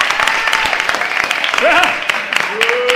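A crowd applauds steadily for about three seconds, a dense, loud patter of clapping with scattered cheers and whoops rising above it.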